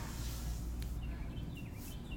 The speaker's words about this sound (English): Do you guys hear the birds? How gorgeous.